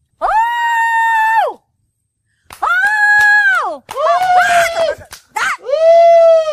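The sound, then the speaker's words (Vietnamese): A woman lets out several long, loud howling calls to summon her husband, each a sustained high-pitched cry that rises and falls, separated by short pauses. “Chứ tôi kêu ông không lên tiếng, tôi phải hú lên.”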